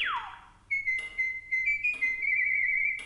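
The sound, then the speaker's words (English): A starling whistles its version of a Mozart melody, with unslurred quarter notes, a fermata at the end of the first measure and sharpened G's in the second: a quick downward swoop, then clear, high sustained notes that waver slightly in pitch, with fresh note attacks roughly once a second. “The little songbird unslurred the quarter notes and added a dramatic fermata at the end of the first full measure.”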